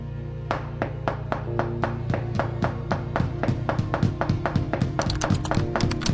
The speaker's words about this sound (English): Knock all you want, you knob, but I'm done paying any more attention to you and your nonsense.